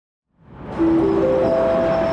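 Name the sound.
train station ambience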